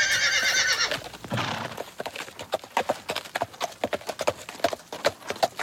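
On a farm raising horses, a horse whinnies loudly at the start, then hooves clip-clop in a steady, brisk rhythm on a hard surface, continuing to the end with no voices.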